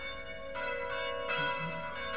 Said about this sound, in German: Welche Glocke ist denn die lauteste Glocke für dich? Und welche? Die Kirchenglocke. Wie laut ist die? So laut, dass sie mich umschmeißt. Und wen ruft die Kirchenglocke? Die Leute.